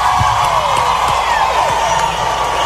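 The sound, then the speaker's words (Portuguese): A crowd applauds and cheers steadily for a group of men being thanked, a loud unbroken wash of clapping with whoops and shouts rising above it, with no speech over it. “Em segundo lugar, por favor, o aplauso de vocês para esses caras que estão escrevendo essa história linda.”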